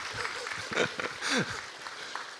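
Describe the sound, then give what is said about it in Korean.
A large group claps together at a church service, applauding the elementary-school department children, in a steady, continuous wash of applause that lasts the whole moment, with a few voices briefly rising through it. “우리 초등부 어디 있어요? 박수 받아 마땅합니다.”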